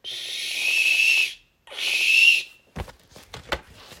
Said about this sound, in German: Ich wollte ihnen aufhalten und drückte den Testknopf am Rauchmelder, um den Warnton auszulösen.